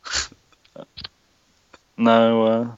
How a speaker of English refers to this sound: I can hear him typing. Even the typing is glitched.